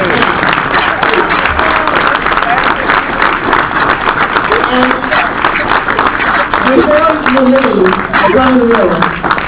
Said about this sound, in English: Please, audience, give these people a huge applause.